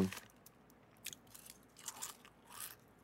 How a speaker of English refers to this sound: I have a mouthful of chips right now.